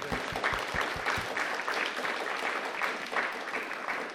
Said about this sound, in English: So again, let's give a round of applause to three of our Gospel Sunday.